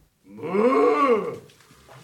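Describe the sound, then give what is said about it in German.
A man's voice imitates a cow with one long, drawn-out moo that rises and falls in pitch, loud, then trails off into quiet with a brief noise at the end. “Also erstmal geht es zum Beispiel los mit der Kuh, die von einem Mann gesprochen wird.”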